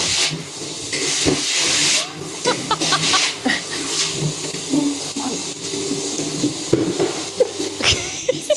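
vacuum cleaner running

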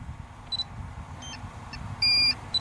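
drone beeping

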